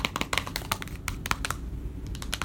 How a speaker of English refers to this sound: So what am I tapping? I'm actually tapping a little plastic paper bowl, rather, of carrots, and they are my puppy's favorite.